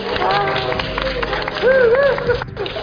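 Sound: crowd cheering and clapping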